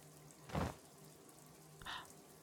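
A shower runs with a steady, even hiss of falling water, broken by two brief louder splashing bursts. No one speaks.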